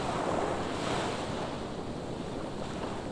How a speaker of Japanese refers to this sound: ほら、耳を澄ませるとザザーザザーと波の音が聞こえてくるよ。普段の生活の悩みからは解放されて、広々とした気持ちのいい大海原。